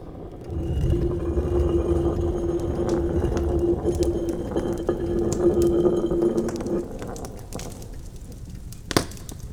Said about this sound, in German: Eine versteckte Nische. Und darin ein knisterndes, gemütliches Kaminfeuer.